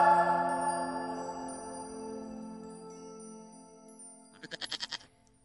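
A goat lets out a long, drawn-out bleat that slowly fades, then ends with a brief quavering, stuttering burst. No one speaks.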